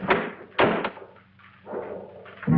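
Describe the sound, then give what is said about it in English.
A front door being opened: several sharp, heavy thuds and clunks of the latch and wood, separated by short quiet gaps, over a faint low hum. “and opens the door to find a figure which approaches him.”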